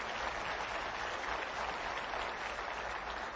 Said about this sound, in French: Nous sommes bénis. On peut applaudir la grâce de Dieu. Alléluia.